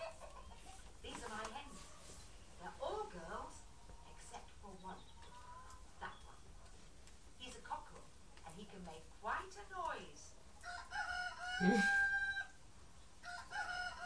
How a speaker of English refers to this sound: What's the cockerel say? Do do do do do.